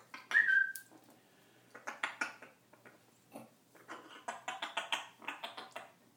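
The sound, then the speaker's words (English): A female grey parrot gives a short, bright whistle, then grinds its beak in repeated bursts of dry, rapid scraping clicks that come in uneven clusters, with no talking. “Oh, you soppy bird. Another beak grinder.”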